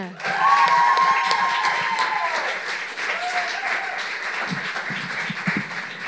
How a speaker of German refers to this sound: Wir haben noch einen Text vom U20 Poetry Slam aus der Luise. Klatscht sie mit einem 10-Punkte-Applaus auf die Bühne.